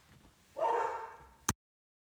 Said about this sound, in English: It's just that... Well, the strangest thing just happened, but it's Dog. He's back. I heard him bark, and there he was, in the yard. Everything is all right, and Dog looks okay, thank goodness. He was just barking at the mailman